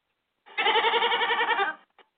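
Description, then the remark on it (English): A single loud, drawn-out bleat from Jacob the goat, with a quavering, wavering tone, lasts over a second, followed by a faint short sound; no one speaks. “Now, what say you, Jacob the goat?”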